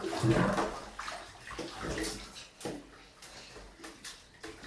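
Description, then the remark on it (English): Water gurgles and sloshes in a bathtub as it drains after the plug is pulled out, a busy churning that swells early and then settles into softer trickling with small splashes. “Did you pull out the plug?”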